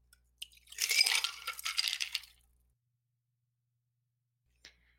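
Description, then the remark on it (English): A cocktail, given a quick whip shake, is poured from the shaker into a Collins or pint glass: about two seconds of rushing liquid with ice cubes clinking and rattling against the glass, fairly loud, then quiet apart from a faint clink. “And then grab a Collins glass or a pint glass, and you're simply just going to take the cocktail from the shaker and dump it into your glass.”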